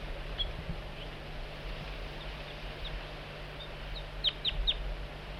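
A bird, Bird 4-3, gives soft, high flight calls to coax a juvenile in: scattered faint chirps early on, then a quick run of three sharper notes near the end, over a steady low background hum.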